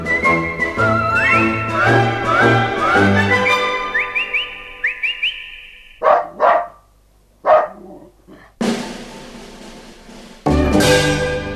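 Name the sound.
dog barking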